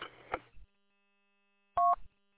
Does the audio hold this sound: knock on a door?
no